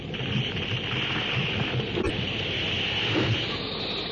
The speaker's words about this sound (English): The deafening crash and roll of thunder combines with the banshee howl of the wind. The convulsion of sound is maddening.